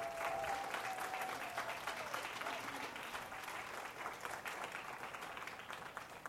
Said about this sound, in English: members and our youth team members one more round of applause.